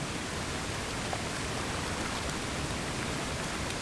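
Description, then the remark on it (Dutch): A waterfall crashes down a rock face at full force in a steady, dense roar of rushing water, broad and unbroken hiss at constant loudness throughout, with no voices. “Je loopt richting een rotswand waarvan water met volle kracht naar beneden stort.”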